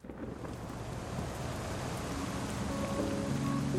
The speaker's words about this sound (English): We're sitting on the stoop of a church near work, with styrofoam coffee cups, watching the rain drip from the awning.